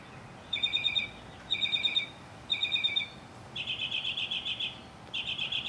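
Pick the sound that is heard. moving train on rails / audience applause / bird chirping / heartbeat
bird chirping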